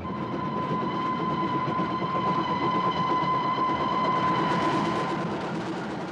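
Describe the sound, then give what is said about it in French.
A train starts moving at night and pulls away, rumbling steadily on the rails with a sustained high whine over a dense, rattling low roar, the noise thickening slightly toward the end as it gathers pace. “Insensiblement, le train s'ébranle, avance, s'en va enfin, puis court et fonce.”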